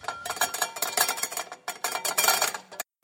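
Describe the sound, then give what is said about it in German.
A metal cooking pot clatters and clanks in a kitchen, rattling against a hard surface in two quick bursts of loud, ringing metallic noise before falling silent. “Und jetzt brauche ich einen Kochtopf.”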